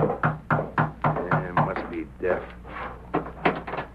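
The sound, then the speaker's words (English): A quick series of sharp knocks on the door of a home at night, about six in steady rhythm, followed by a voice speaking as the knocking stops. “But that night, as he sat alone in his home, someone knocked at the door and...”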